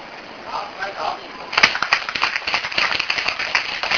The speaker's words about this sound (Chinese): 好，拍手。那这么要讲，就像这样一位难过的事情，刚刚拍手过的是鼓励他有这个勇气，他也做完了。